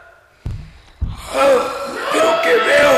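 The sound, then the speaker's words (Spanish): Two sharp snorting breaths, then a long, drawn-out stretch of loud, exaggerated snoring from two deep sleepers, one of them a little bird. It sounds like a voice imitating heavy snores. “Ya Balaam y el pajarito se han quedado profundamente dormidos. Y lo peor es que están roncando.”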